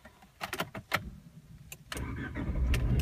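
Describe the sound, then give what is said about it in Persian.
A few sharp clicks, then a car engine in neutral, with the handbrake released, cranks and catches. Its steady rumble grows louder as the revs climb on their own, with no foot on the accelerator or clutch. There are no voices. “دور موتور ماشین همینطور زیاد و زیاد و زیادتر میشه، با این که پاهای من نه روی گاز هست و نه روی کلاچ.”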